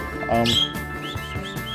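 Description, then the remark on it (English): A small pet bird chirps and tweets in quick, bright bursts, with a high whistled call rising over a low background hum and some faint voice-like tones. “hey bird, come on, take that noise.”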